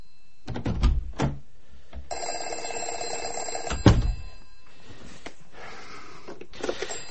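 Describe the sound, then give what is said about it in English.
A telephone rings once in a sustained, buzzy electronic trill, preceded by some clattering handling noise and cut off by a sharp clunk, followed by quiet room tone. “I keep getting these calls.”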